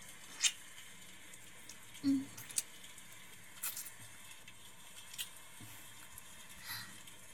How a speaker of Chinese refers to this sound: 老公，你听，外面的雨声好大呀